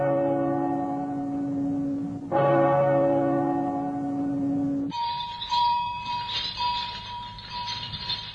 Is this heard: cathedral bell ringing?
yes